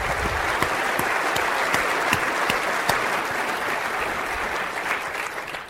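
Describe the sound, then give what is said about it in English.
A large audience at a conference opening event in Tampa Bay applauds steadily, a dense wash of many hands clapping at once, loud and sustained for several seconds before beginning to thin out slightly at the end. “Let's give them a good round of applause.”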